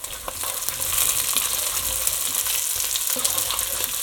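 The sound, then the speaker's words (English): Steady, dense sizzling and crackling of good quality pork sausages frying in a hot pan, a bright hiss with scattered small pops running throughout, with no voices. “Now what I want to do is put in my sausages. I'm just going to pour in like that.”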